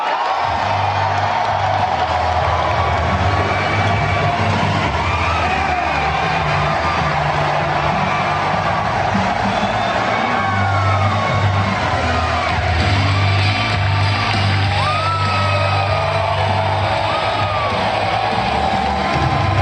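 A large crowd cheers and roars continuously to welcome Alex Jones, with scattered whoops, yells and rising shouts over a steady low rumble, loud and sustained throughout the nearly twenty seconds.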